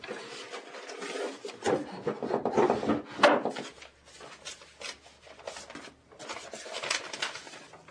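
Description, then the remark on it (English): A wooden drawer holding emergency money scrapes and rubs as it slides open, a grainy friction sound lasting several seconds with uneven pushes and a few louder bumps, no voices. “you should know that I have some money in this drawer in case there is an emergency.”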